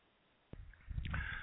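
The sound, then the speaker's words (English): After a brief silence, a sharp click is followed by low, wet sloshing and gurgling as someone takes a drink of water, growing steadily louder toward the end. No one speaks. “Let me take a quick drink of water here.”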